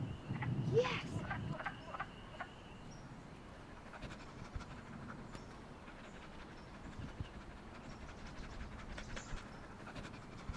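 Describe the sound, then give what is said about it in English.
A chorus of wood frogs croaks steadily, a soft, clucking, duck-like chatter repeating over a low outdoor background, with a brief louder burst near the start. “Can you hear the wood frogs?”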